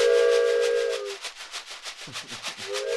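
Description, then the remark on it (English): A child's toy train whistle blows a breathy two-tone hoot, fades under a rhythmic rasping shake, then sounds again briefly at the end, fairly loud. “And of course, most traditional, a box of macaroni and cheese and a child's train whistle.”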